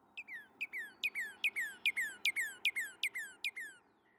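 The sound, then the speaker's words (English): A Northern Cardinal sings a steady series of about ten clear, loud down-slurred whistles, each sweeping sharply from high to lower pitch, with faint low background hiss and no voices. “For instance, the Northern Cardinal. A loud string of clear down-slurred or two-parted whistles, often speeding up and ending in a slow trill.”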